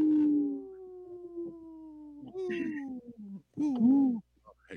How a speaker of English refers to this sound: This portion of the show is supported by Howling for Wolves, protecting wolves for future generations. Howl! Howl! Howl!